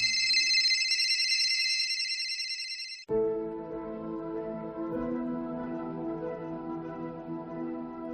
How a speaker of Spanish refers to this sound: No, en absoluto. El olor y el sonido de los móviles es algo que bueno, que cualquiera que hubiera entrado en ese sitio no lo olvidará jamás.